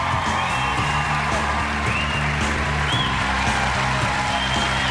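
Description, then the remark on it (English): A large crowd of about 3,500 people applauds and cheers continuously at the unveiling of a blue Orange County chopper with CNG written on it, dense clapping blending with whoops and shouts at a steady, loud level throughout, with no pauses. “It's got CNG written on it, and the crowd went crazy.”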